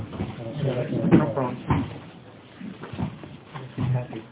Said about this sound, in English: Pull over a chair.